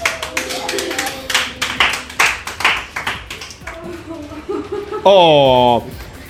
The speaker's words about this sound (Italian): Facciamo un applauso, ovviamente.